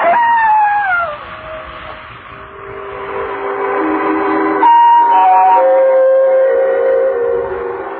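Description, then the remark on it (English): A jackal howls in the distance through the night, long wavering cries that slide downward in pitch and overlap one another, sustained and eerie with no voices present. “I must admit that the howling of the distant jackal even made me nervous.”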